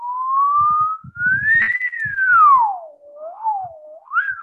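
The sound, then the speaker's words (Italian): A single continuous whistle glides slowly upward in pitch, peaks, then swoops down and rises again in a smooth wavering tone, close and clear with faint soft noises underneath. “Per cui se io faccio un fischio, per esempio.”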